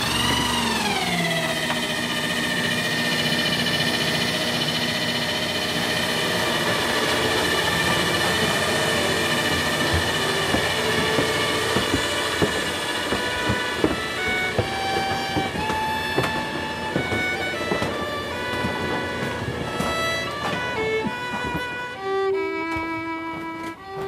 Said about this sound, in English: So, in this narrow house on several floors with a winding staircase, engineer Chris Brooks constructs an old-time dumbwaiter to transport the dinner up from the kitchen to the dining room. So, up it goes.